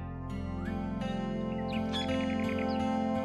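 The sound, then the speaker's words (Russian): In the morning, birds chirp and trill in short bursts, including a quick repeated run of notes, over a constant low droning hum that fills the background. “А утром зашло солнце, и песню сверчка сменили птичьи трели.”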